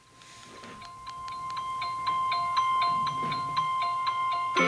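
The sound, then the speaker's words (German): A gentle Apple standard phone ringtone called Daybreak plays a melody of bright, evenly spaced chime-like notes, growing louder as it plays, with a steady high tone sustained underneath and no voices. “Das ist ein Apple Standard. Heißt der? Der heißt Tagesanbruch.”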